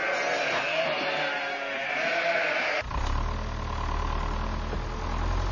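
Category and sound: animal, sheep bleating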